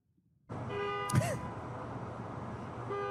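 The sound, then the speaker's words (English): Horns of driverless cars honk over a steady wash of outdoor noise in a San Francisco parking lot at night as the cars try to park themselves, a sustained blaring tone near the start and another one or two horns beginning again at the end, moderately loud. “Their horns have been heard honking all night as they try to park themselves.”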